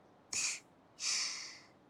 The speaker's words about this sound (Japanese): 大きなあくび。